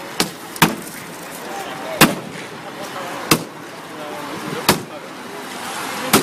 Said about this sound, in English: He's smashing this car that's still worth, I mean, it was $80,000